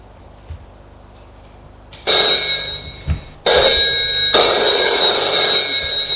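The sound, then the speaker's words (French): After two seconds of near silence, a telephone's mechanical bell rings loudly in long jangling bursts with brief gaps, continuing to the end. “Le téléphone sonne.”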